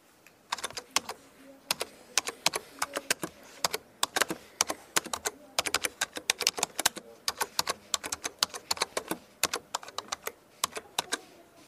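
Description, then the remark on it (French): Rapid, uneven clicking of keys on a computer keyboard, dozens of sharp taps in bursts and pauses, fairly quiet, with no voices. “C'était le bruit du clavier d'ordinateur.”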